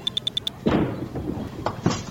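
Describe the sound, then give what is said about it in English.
Five quick, high electronic beeps, then a second-throw bowling ball crashes into the one remaining pin with a loud clatter that fades, making a spare, followed by a couple of smaller knocks. No one speaks. “You made a spare.”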